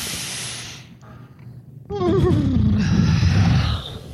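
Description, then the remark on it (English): A breathy inhale gives way to a person's voice imitating a horse's whinny, a wavering, fluttering cry that slides downward in pitch and ends in a rough, snorting exhale, fairly loud. “… team. Was doing a weird horse thing.”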